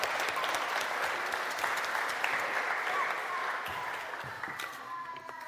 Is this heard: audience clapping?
yes